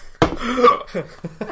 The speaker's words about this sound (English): I've got hiccups now.